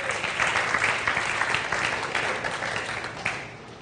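An audience claps steadily, a dense wash of many hands that stays loud throughout and thins slightly toward the end, with no voices standing out.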